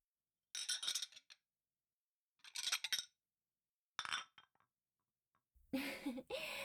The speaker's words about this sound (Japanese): じゃあ、食器片付けちゃうわね。